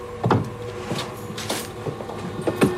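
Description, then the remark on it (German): A wardrobe door is pulled shut from inside by a person hiding in the wardrobe, in a short series of wooden creaks and knocks, a few distinct bumps spread over a couple of seconds, moderately loud, with no voices. “Sie schlüpft hinein und zieht die Tür zu.”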